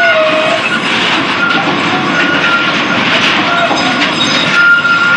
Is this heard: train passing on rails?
yes